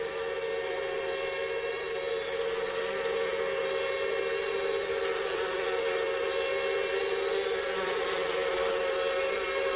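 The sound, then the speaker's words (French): Flies buzz in a dense, unbroken drone within a music track, holding steady for the whole stretch, fairly loud, with no voices or other sounds breaking through. “Il n'est donc pas surprenant d'y entendre les bruissements de mouches.”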